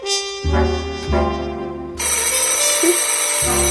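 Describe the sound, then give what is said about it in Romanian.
A telephone rings loudly and steadily with a bright electric bell tone, with no one speaking over it. “Telefonul ăsta era a doua cursă.”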